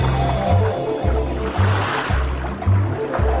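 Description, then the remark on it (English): Choppy ocean water sloshes and churns as a penguin swims in it, with a steady hiss of spray over low, rhythmic thumps as waves slap every second or so. No voices. “Penguin swimming in choppy water.”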